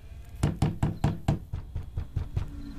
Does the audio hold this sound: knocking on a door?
yes